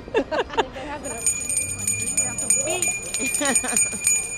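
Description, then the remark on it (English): Hand bells ring in steady, overlapping tones that linger through most of the moment, heard outdoors in San Francisco's Union Square while people talk. “And I think I see some bell ringers over there.”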